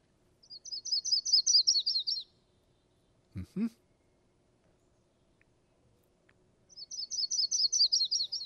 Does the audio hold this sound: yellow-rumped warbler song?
yes